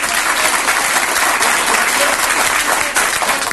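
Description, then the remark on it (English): A crowd applauds steadily and loudly for a few seconds as the U.S. president exits the room after his statement, a dense wash of clapping with some cheering mixed in, no pauses or distinct voices standing out. “He exits the room to cheering.”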